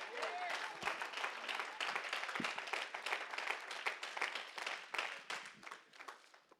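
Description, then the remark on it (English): An audience claps hands steadily for several seconds to thank God, a dense, loud patter of many hands with scattered voices calling out over it before it starts to thin at the end. “Well, you ought to just clap your hands and thank him.”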